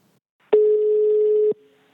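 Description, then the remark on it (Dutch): A telephone dial tone sounds once as a phone call is placed to a guest, a steady mid-pitched hum lasting about a second that starts and stops abruptly, loud and alone with no voices. “Dit klinkt als een telefoon.”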